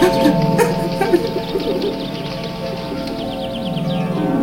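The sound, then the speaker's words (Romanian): A flock of birds coos steadily, a continuous murmuring layer with soft flutters of movement and occasional brighter chirps breaking through. “Păsările se mișcă la cuvântul tău!”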